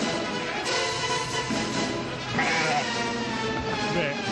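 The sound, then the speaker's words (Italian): A flock of sheep bleats almost continuously, several nasal, wavering calls overlapping one another, loud and steady for the whole stretch. “Che ragazze, sono pecore.”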